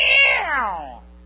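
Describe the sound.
A preacher in a sermon mimics an upset cat being rubbed backwards, with a single loud, drawn-out meow that slides downward in pitch and fades after about a second, with no talking and a faint steady hum beneath.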